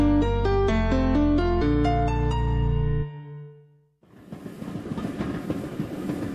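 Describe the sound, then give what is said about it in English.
Loud sustained tonal notes fade out, then after a short pause a train with a boxcar packed with ice rolls along the rails with a dense, steady, fairly loud rattling clatter, with no voices. “We're in a boxcar packed with ice.”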